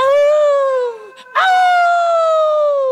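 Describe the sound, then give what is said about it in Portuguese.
Loud, drawn-out howling of dogs: one long howl slowly sliding down in pitch, a brief break, then a second sustained howl that starts sharply and fades gradually. Clear, with no talking. “E quando a festa estava quase no final, os cachorros que tinham bebido muito e estavam muito contentes começaram a uivar bem alto e atrapalhar toda a vizinhança.”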